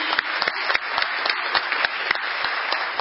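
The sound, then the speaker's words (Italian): A crowd applauds steadily for the parents, grandparents and relatives who support a club's young members, many hands clapping in a dense, continuous patter with a few sharper individual claps standing out, no voices over it. “Facciamo un applauso a loro.”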